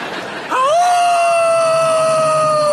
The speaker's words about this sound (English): Why that howl? I think he's got the scent.